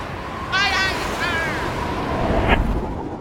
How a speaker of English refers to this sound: The wind is picking up. And we're taking on water. I don't know how much longer she'll hold in this squall.